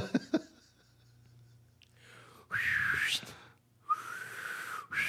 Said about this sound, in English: Why can't I whistle this morning? It's fall. That's what it is. This is not good. This is not good whistling weather.